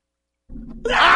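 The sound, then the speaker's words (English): A low rumble gives way to a sudden, loud rush of water gushing from a water cooler during a game of water cooler roulette, a steady hissing spray that continues to the end. “In water cooler roulette.”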